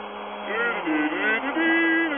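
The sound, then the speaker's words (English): A vacuum cleaner runs steadily, its motor a continuous whining drone whose pitch rises and settles a few times, with a muffled voice faintly underneath. “Anyway, fellas, we got a vacuum up.”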